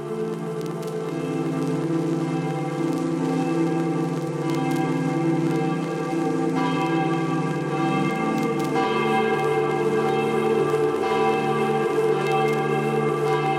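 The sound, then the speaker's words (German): Church bells peal steadily from the baroque bell tower of the Gothic Marienkirche in Weißenfels, Germany, on a mild October day, several bells overlapping in a dense, resonant wash of ringing that stays loud and continuous throughout, with no voices. “die gotische Marienkirche mit dem barocken Glockenturm.”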